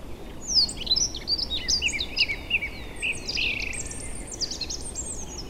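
Forest birdsong in mid-April with chaffinches and thrushes singing, as the chaffinch phase nears its end and the thrush phase begins: a dense overlapping chorus of bright trills and whistled phrases over a soft background hush, with no voices.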